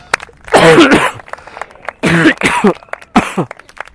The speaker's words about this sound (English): Sorry, I have a coughing attack.